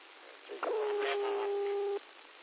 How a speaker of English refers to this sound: Cat is yelling at me again.